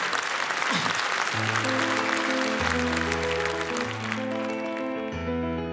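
Loud, continuous audience applause fills the whole clip, and after about a second a steady, chord-based musical accompaniment starts playing underneath the clapping.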